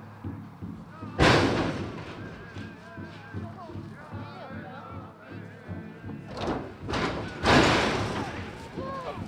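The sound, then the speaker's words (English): Shoshone bison charge one by one out of the side doors of a truck-hauled metal trailer onto pasture in the first tribe-to-tribe buffalo transfer. Their hooves set off two loud, booming bangs against a steady rumble, while the voices and calls of watching tribe members carry on underneath. “Members of both tribes gather to watch the animals thunder free onto the pasture, one by one.”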